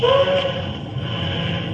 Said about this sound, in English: Holmes, did you hear that? By Jove, yes. Sounds like an ocean liner, right enough.